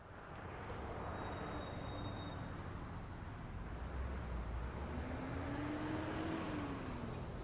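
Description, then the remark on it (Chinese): A steady engine rumble and road roar inside a moving city bus in China riding to Xishui Road, with a rising mechanical whine near the end as the vehicle picks up speed. No one speaks. “我坐着公共汽车到了西水路”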